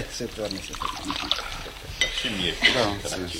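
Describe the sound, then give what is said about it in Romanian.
Glasses clink lightly a couple of times, with a faint sound of brandy, rum or cognac being poured, while people talk over it. “Iată, v-am adus rachiu, rom și coniac. Serviți ce vă place.”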